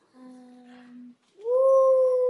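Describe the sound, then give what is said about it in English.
A person imitates a wolf howl: a low, steady hum breaks off, then a louder voiced howl swoops upward and holds a long, sustained note. “Can you make a wolf sound?”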